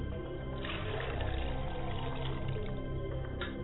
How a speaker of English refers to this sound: As I pour libations to the east, I say libation to the east.